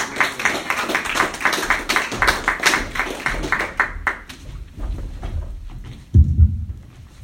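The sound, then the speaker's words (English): An audience claps steadily in a dense, crackling burst of applause that gradually thins out to scattered claps, ending with a brief low thump. “Let's keep those claps going”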